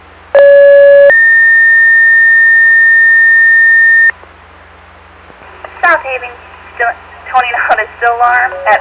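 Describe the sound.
Two loud, steady electronic fire dispatch alert tones sound in sequence, a short lower tone followed by a long higher one, then a radio dispatcher's voice comes in over a faint hiss, toning out South Haven a still alarm for a 3-car PI accident at the corner of Phillips and LaGrange.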